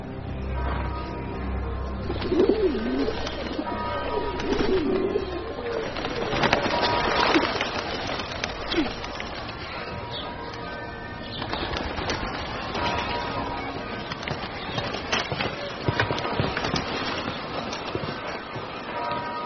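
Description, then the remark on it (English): A few pigeons coo in soft, low bursts amid a busy, bustling background of crowd murmur and clatter, the calls partly masked by the surrounding noise. “How about a nice fat pigeon?”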